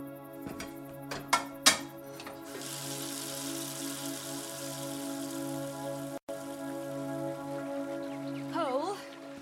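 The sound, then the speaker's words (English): A kettle boils with a steady rushing hiss and bubbling, after a few sharp clinks at the start, and a faint wavering whistle begins to rise near the end. “Oh, just see to that kettle and give me a moment's peace.”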